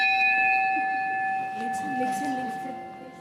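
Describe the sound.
A small church bell, rung by pulling its rope before a church service, rings with a bright, sustained tone that hangs in the air and slowly fades, while soft voices murmur underneath.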